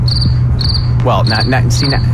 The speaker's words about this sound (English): That joke just died on the table. Just give me cricket sounds.